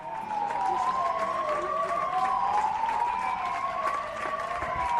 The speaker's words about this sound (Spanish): Si te parece, vamos a empezar con un aplauso.